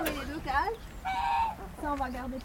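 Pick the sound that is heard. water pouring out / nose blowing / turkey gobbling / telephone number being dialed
turkey gobbling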